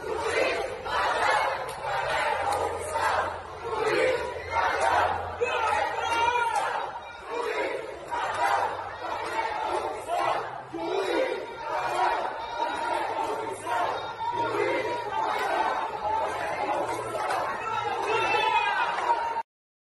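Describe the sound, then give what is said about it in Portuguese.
A large crowd in Recife loudly shouts protest chants of "juiz ladrão" at former judge Sérgio Moro, voices rising and falling in unison in a steady, repeating rhythm that continues for the whole stretch, with a low rumbling undertone beneath. “Já que a gente está falando agora do Moro, eu vou colocar aqui um vídeo dele sendo escrachado em Recife, lembrando que ele também foi em Porto Alegre, ou seja, em qualquer lugar que ele for agora, ele vai ter que ouvir gritos de juiz ladrão.”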